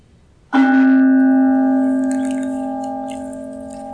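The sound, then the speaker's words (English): A single meditation bell is struck once, its bright clang settling into a long, rich hum of overtones that sustains and slowly fades, with faint soft rustling in the background. “May the sound of the bell reverberate throughout the universe, taking us to that still point of remembrance.”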